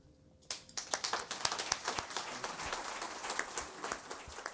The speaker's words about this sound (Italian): E su questo applauso a Monia Parente termina il nostro incontro.